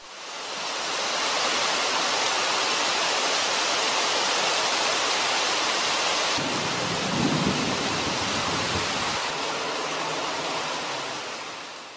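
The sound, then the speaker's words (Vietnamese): Heavy pouring rain falls on a hill above Highway 1, roaring in a dense, unbroken, loud hiss throughout, with a brief low rumble rising midway beneath the downpour. No voices are heard. “Mưa tầm tã, chúng tôi chậm chậm xuống đồi để ra xa lộ 1.”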